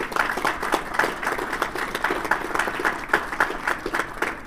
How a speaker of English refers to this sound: Give yourself a round of applause for the great work that you did.